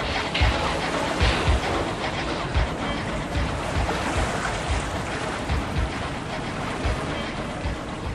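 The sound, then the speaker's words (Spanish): Continuous surf and lapping water at the sea near Baghdad wash over the scene, with low rumbling thumps suggesting boats or engines at a harbour, steady and fairly loud throughout with no voices. “¡Qué hermoso es el mar! Y los barcos.”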